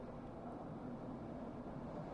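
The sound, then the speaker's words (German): A train rushes past at night near a riverbank with a steady, even low rumble and roar that holds at the same level throughout, with no voices. “Hin und wieder rauschte in meinem Rücken ein Zug vorbei.”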